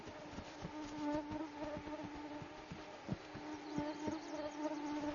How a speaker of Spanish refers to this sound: Los mosquitos se multiplican rápidamente y forman enjambres enormes. Todos los habitantes del Ártico sufren por ellos. El buey almizclero, quizás más que nada, especialmente cuando no hay viento, los enormes animales están a merced de los mosquitos.